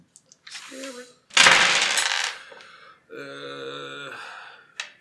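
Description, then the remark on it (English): Three stress dice clatter and rattle across a hard tabletop in a few noisy bursts, followed by a sustained hum-like vocal sound and a final sharp tap. “Oh, 2, 4, 6, 8, but then I've got to roll your 3 stress dice on well.”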